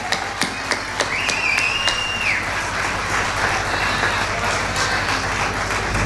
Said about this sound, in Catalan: Un fort aplaudiment!